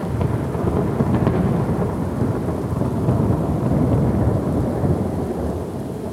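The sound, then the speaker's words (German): A thunderstorm rumbles on, deep thunder rolling continuously beneath a steady wash of heavy rain, loud throughout with no voices. “Das Abenteuer dieses wunderbaren Baumes begann damit, dass eines Tages sein Mutterbaum von einem gewaltigen Blitz getroffen wurde und noch in derselben Nacht sein Leben aufgab.”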